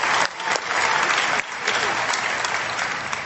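A crowd at an AA meeting applauds a speaker steadily, a dense wash of many hands clapping at a loud, even level that stays sustained for the whole stretch, with no voices standing out.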